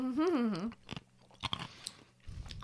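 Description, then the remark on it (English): A brief hummed vocal sound gives way to irregular crunching as big chunks of ice in a cold blended drink are bitten and chewed, several sharp crisp crunches spread over a couple of seconds. “It's got very big, crunchy. Big chunks of ice in there.”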